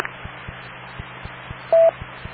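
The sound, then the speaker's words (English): A single short, loud touch-tone beep sounds near the end, over a steady low hum and a regular train of faint clicking ticks. No one speaks. “Wait for the beeps.”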